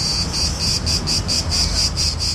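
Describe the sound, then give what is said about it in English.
Cicadas buzz loudly and continuously in a steady, pulsing drone, with rhythmic surges about every quarter second over a low background rumble, from a tree full of cicadas in a small square in Greece in summer heat. No voices. “Cicadas singing, the sound of summer, usually the time for Greeks to chill out and party.”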